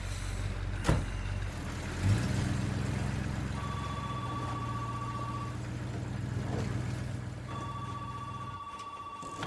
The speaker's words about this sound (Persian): اون ماشین کیه؟ از صداش داشتم سکته میزدم.